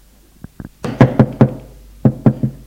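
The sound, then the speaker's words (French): Knocking on the door of hospital room 405, a door with opaque glass panes: a few faint taps, then four firm, hollow knocks in quick succession, a short pause, and three more knocks. No voices. “Frappe.”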